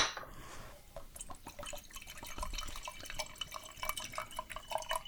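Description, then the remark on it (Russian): Wine is poured into a glass, a steady run of gurgles, splashes and small drips lasting several seconds, with no one talking. “Зато не течет на скатерть.”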